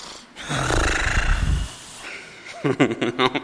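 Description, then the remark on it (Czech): A voice imitates the snoring of a father asleep on a couch: a long, rough, rumbling inhale, then a short pause and a burst of voiced, wavering snorts and grunts. “Počkali jsme si, až se tatínek vzbudí.”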